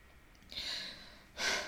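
Two wet sniffs through the nose after crying: a longer drawn-in one followed by a short, sharper sniff, with no talking around them.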